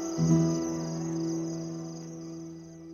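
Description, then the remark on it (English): Crickets chirp steadily through a quiet night outside a house, a continuous high trill that stays even throughout, with a low, constant hum beneath it and no voices. “The house finally falls silent, except for the sound of crickets and jackals outside.”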